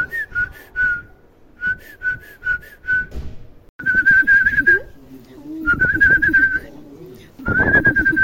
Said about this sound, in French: C'est un pigeon. T'as vu ça. Ça ressemble à un pigeon. C'est une tourterelle.